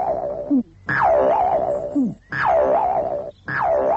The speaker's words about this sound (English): Oh, I know what we can do. We'll send a message, arrows across the woods. Right, men, fire arrows.